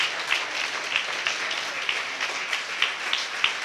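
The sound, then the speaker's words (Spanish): A large crowd applauds steadily as an offering of applause to the Lord after a worship song, a dense wash of many hands clapping at once with a few sharper claps standing out, sustained and fairly loud throughout. “Gracias a Dios con su fuerte aplauso, con una fuerte ofrenda de aplausos al Señor.”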